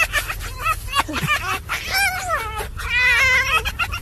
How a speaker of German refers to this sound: Also vor Schmerz so, wie diese Füchse, die du mal präsentiert hast, die sich so kaputt kichern. Ja. Die können wir kurz einspielen